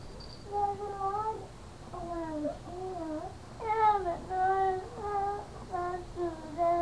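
A small child cries in a run of whiny, wavering wails, each sob rising and falling, continuing steadily with only brief breaths between them and no other voices.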